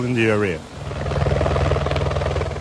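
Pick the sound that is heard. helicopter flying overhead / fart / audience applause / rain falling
helicopter flying overhead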